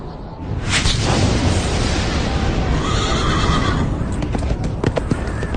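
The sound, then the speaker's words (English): A white horse whinnies loudly over a heavy, rumbling wash of noise, followed by a scatter of clattering hoofbeats near the end. “And I looked, and behold, a white horse.”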